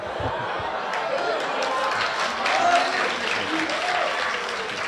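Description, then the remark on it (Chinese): Steady audience applause at a xiangsheng (Chinese crosstalk) show, greeting the piece "Tongrentang" performed by Li Jing and He Yunwei: a dense wash of many hands clapping that holds at an even loudness for about five seconds, with faint murmurs and a few chuckles mixed in. “哎，感谢朋友们热情的掌声。”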